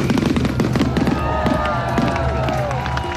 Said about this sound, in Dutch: De show was een combinatie van lichten, lasers en professioneel vuurwerk. En er kwamen alsnog veel mensen op af.